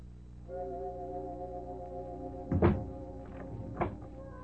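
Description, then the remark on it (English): A door swings shut with a heavy thunk, followed a moment later by a softer knock, all over a low, steady tonal drone with no talking. “Closing door finishes the story.”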